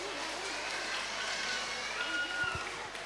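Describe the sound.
A large group of children, asked by their teacher, clapping loudly together at a 2019 Mid-Autumn Festival (Tết Trung Thu) gathering, a dense, steady patter of hand claps that holds at an even level for about three seconds, mixed with a faint murmur of voices.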